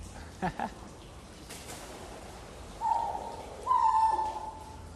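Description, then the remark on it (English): Two drawn-out, hooting calls of ground cuckoos walking along, the second a bit longer and louder, after a couple of soft taps over a quiet outdoor hush. “And the ones that are walking along. Those are ground cuckoos.”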